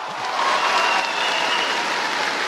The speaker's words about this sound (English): Once again, thousands of well-wishers lined the streets, cheering and waving as Pope Benedict passed by, waving and smiling in return.